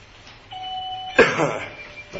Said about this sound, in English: Would you ring that bell up on top of the ledge there?